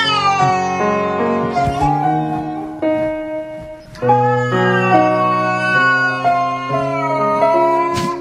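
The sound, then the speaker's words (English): Drawn-out cat meows from taped recordings of cats, scored to piano music by a piano player, rise and fall over a steady piano accompaniment, the yowls repeating in long phrases that follow the melody, loud with no one talking. “Here's an Asian piano player that has found tapes of cats and monkeys making their sounds and scoring them to piano.”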